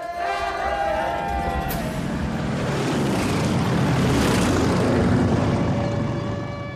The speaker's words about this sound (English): they're interrupted by low-flying planes dropping leaflets. War has broken out.